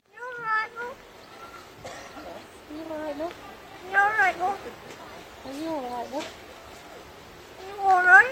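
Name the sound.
crow mimicking human speech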